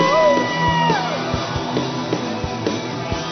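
An audience erupts in loud shouts and whoops of praise to the Lord, with a few voices rising and sliding in pitch over a sustained crowd roar and scattered low thumps.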